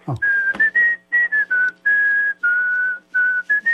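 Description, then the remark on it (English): Someone whistles a tune, with a series of clear sustained notes broken by short pauses, clean and steady with no talking over it. “And double points for whistling.”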